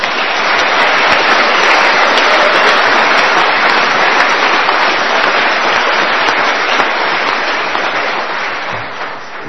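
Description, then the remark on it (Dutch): An audience applauds in a steady, dense wash of clapping that holds loud and even for nearly ten seconds, easing off only slightly at the end, with no voices over it. “En zullen we daar, ik bedoel, het is niet helemaal normaal, ik heb maar geld, ik wil ze wel even een applaus meegeven.”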